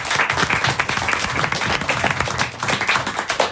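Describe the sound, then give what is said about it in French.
Steady studio audience applause: many hands clapping in a dense, continuous patter that stays fairly loud and even for the whole stretch, with no one speaking over it. “on vous applaudit, on vous remercie, on vous dit à demain.”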